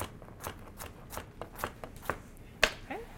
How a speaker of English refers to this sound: going right down the carrots to chop them all in small pieces